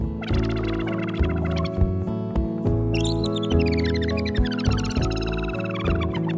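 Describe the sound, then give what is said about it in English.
Muskrat squeaking imitated by bright, warbling synthesizer chirps that rise and fall in pitch, woven through a steady, mellow instrumental song with sustained chords and a soft bass line. “Is that really what the muskrats sound like? It really is.”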